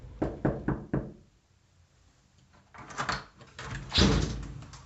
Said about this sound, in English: I knew it was you by your knock. You say you didn't knock? Well, you knocked without knocking. That's how I knew it was you.